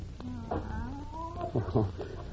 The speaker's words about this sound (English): That's just Professor Kimberly's cat. No one's been able to get near it since the professor's death. How'd it get in here? Probably followed us in when we opened the door. It's been sulking around the building for days.